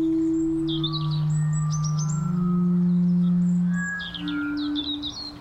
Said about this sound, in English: But where is the bird? Is it in a tree or on the ground? Sometimes your ears are better tools than your eyes.